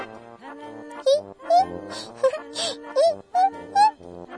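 A baby watching In the Night Garden on TV, holding a rattle and a pink wand and swaying to the TV music, babbles and coos in a run of short, sing-song vocal sounds with swooping, rising pitches, some bursts louder than others, and no adult speech.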